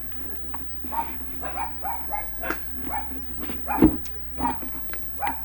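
Several dogs bark repeatedly in short, uneven bursts, some yips mixed in, at moderate distance over a low steady hum, with faint voices underneath.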